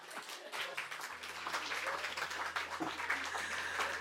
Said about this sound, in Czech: Co dodat nic, než zasloužený potlesk